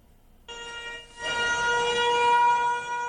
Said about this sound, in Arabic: منذ 74 عاما تدوي صافرات الإنذار بذكرى النكبة على عدد سنينها